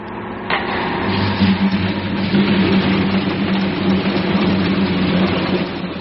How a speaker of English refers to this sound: Start the compressors.